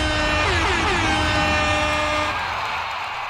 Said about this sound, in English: It feels like we need a bigger air horn.